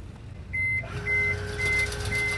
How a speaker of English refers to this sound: At the Marine Battalion headquarters in Brook Park, an electronic gate swings open to let cars onto the grounds.